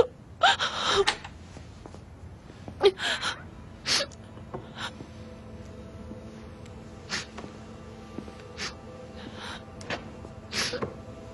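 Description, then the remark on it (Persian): A girl cries alone, with ragged gasping sobs and shaky whimpering breaths coming in uneven bursts, fairly loud, over a faint background hum. “میدونی وقتی اینجوری گریه میکنی نمیتونم باهات حرف بزنم، پس خودتو کنترل کن.”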